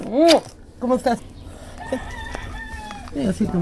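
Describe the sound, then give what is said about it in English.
Chickens cluck and squawk in short bursts in the back of a small stucco house in South LA, with a quieter stretch in between filled by a faint background hum before the clucking picks up again. “His dad's got chickens in the back.”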